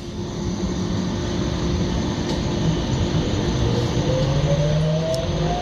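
A steady, loud rumble of a metro train in motion, with dense low-end roar and a rising whine that slides upward near the end, continuous throughout with no voices.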